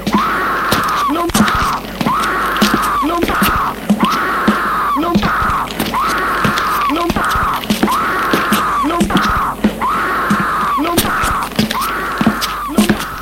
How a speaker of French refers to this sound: Il entend des cris étranges, des cris horribles.